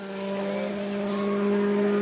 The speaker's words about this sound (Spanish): Y así suenan los saltos en el Rally de Finlandia.